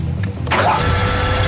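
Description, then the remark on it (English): A steady motorized whir as the firework launcher on top of Dead Reckoning spins round, then a sudden hissing burst as it fires fireworks, the mechanical hum carrying on underneath afterward. “The firework launcher on the top of Dead Reckoning spins round and fires.”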